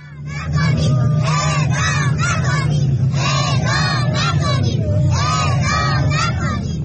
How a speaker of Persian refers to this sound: در ویدیوهایی که از این تجمع منتشر شده، صدای گریه برخی زنان حاضر در تجمع شنیده می شود و کودکان نیز فریاد می زنند اعدام نکنید.